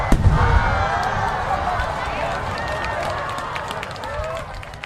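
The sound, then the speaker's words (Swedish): Fireworks set off during the Diwali festival of lights in India crackle and pop repeatedly over a dense, continuous rumble, with whistling rockets rising and sharp bangs scattered throughout, and a busy crowd murmuring in the background. “Under Diwali, som firas i oktober eller november beroende på år, skjuter många indier fyrverkerier.”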